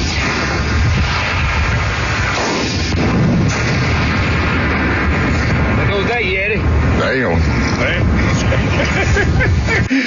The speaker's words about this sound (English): You hear the shot, and then you hear the explosion right after that. Yeah. There goes that Yeti.